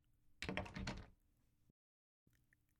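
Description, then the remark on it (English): A door being cracked open: a brief rattling burst of handle and latch noise lasting under a second, followed by quiet room tone. “She did tell me he was a heavy sleeper, so maybe I'll just crack the door open.”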